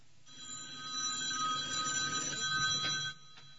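A telephone rings with a steady, bright electronic tone lasting about three seconds, heard alone at moderate volume before cutting off abruptly.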